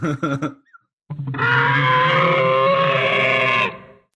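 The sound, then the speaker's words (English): A few short voiced bursts, a brief pause, then a loud, sustained, raspy Neanderthal scream that holds steady for over two seconds before cutting off abruptly. “Should I be like, okay, guys, here's the scream.”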